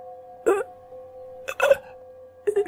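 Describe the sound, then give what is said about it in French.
Three short, wet, choking, bloody gurgles from an old man's open mouth after he collapses to the ground, spaced about a second apart, fairly loud over a faint steady humming drone. “Et dans sa bouche ouverte, un gargouillis sanglant.”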